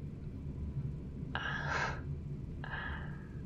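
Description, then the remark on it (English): Two airy, audible breaths: a longer one, then a brief pause and a shorter one, over a low, steady background rumble. Nobody speaks. “I can hear your breathing.”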